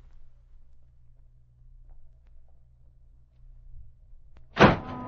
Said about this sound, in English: He kicked the door open and didn't come in.